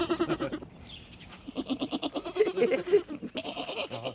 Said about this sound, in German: Es hat eine lustige Sprache, so eine kleine Ziege. So klein und schon so meckerig.